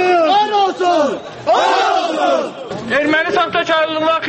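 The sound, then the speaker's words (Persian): A large crowd of protesters in Azerbaijan shouts slogans in unison against the writer Akram Aylisli while burning his photos and books, loud rhythmic chanting rising in repeated bursts with many overlapping voices and no pauses. “بنیدهای شرمنده و مرگ بر تو هزاران نفر در زیر تیرزه خانه اکرم ایلیسلی، یکی از نویسندگان سرشناس آذربایجان، عکس ها و کتاب های او را آتش می زنند.”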